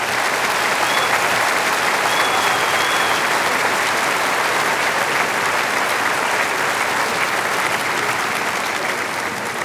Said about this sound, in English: Give him an enormous applause, the king of the waltz, Johann Strauss.